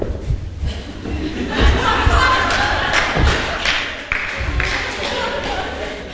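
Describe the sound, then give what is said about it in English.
A crowd stomps their feet on the floor, acting out stomping the devil underfoot, in a run of heavy, low thuds, some landing together in loud bursts, with chuckles and scattered voices mixed in. “You need to raise up your foot and stomp him.”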